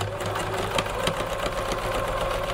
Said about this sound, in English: Sewing machine? Correct. Well done.